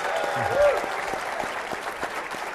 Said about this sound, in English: Give him a nice warm round of applause.